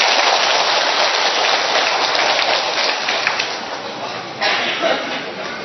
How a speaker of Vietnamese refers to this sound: Rồi, một tràng pháo tay thưa anh chị em.